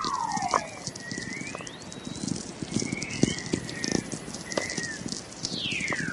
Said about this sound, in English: When I discovered Earth makes its own radio waves, I was amazed because I'm a nature enthusiast anyway, you know, always been interested in astronomy and science.